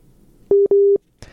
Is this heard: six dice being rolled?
no